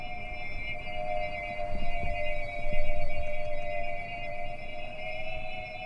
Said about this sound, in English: That eerie thrumming, that noise of flying saucers from an old science fiction film, that's birds too. Those are pigeon whistles. Pigeon whistles are tiny flutes. They're made from bamboo or gourds